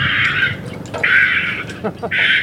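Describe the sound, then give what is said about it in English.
Loud recording of a heron colony played from a speaker in a tree at Lake Merritt, Oakland, as a biologist tests it: three long, harsh screeching bursts from adults, separated by brief clipped 'kick, kick' calls from chicks, with no talking. “It's playing a recording of herons.”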